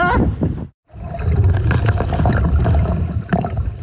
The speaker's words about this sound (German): Oh, Alter, das füllt sich einfach alles mit Wasser hier und ist saukalt.